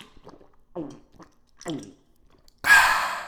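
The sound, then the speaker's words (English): Someone draws several breathy, wet inhalations of gas from a can, ending in a loud, sudden burst of hissing gas. No one speaks. “Shoot a can down your gullet and everything you say will sound like a curse word.”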